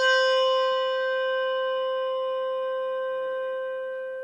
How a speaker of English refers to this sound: Malmark bell, no tang.